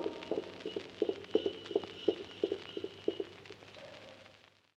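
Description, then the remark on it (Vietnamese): The hooves of a saddled horse clip-clop in a steady walking rhythm as its rider hurriedly departs while it is still dark, a series of sharp knocks over a faint background hum, fading away at the end as the horse moves off. “Ngựa đã thăng yên cương, ta đi gấp lúc trời còn tăm tối.”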